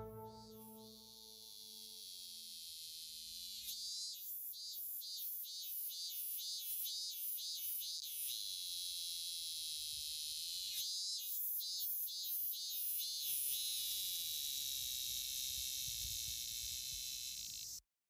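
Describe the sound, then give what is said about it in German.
Loud, dense cicada chorus in summer fills the air with a continuous high buzzing, swelling into rapid pulsing bursts in the middle and again later, with no voices present. “Hört ihr die Zikaden singen?”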